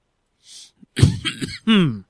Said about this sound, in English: Yeah, coughing a little bit today. A little worried about that, you know.